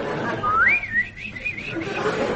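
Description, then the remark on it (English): A person whistles a quick, warbling birdlike trill, the pitch rising then wavering up and down in short loops, mimicking birds twittering, followed by a few softer chirps. “As I walk down the country lane, I hear the birds twittering.”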